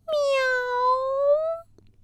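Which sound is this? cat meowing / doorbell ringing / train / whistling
cat meowing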